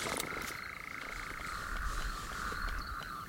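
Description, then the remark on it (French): A dense nighttime chorus of tree frogs calling in rapid, continuous trills, with lower toad croaks mixed in underneath, steady with no voices. “Tu vois, t'as deux amphibiens différents. Il y a la rainette et puis le crapaud. C'est pas du tout le même bruit.”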